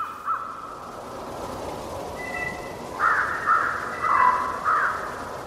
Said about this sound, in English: This sound here is wolves. The sound that's like the wind. That's two packs of wolves converging on each other. I call it whisper howling. It's the sound they make right before they begin to howl.